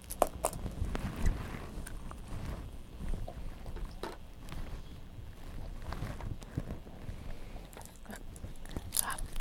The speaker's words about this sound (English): Now you're gonna chew your keys. Mm. You chew your keys. Are they good? Are they yummy?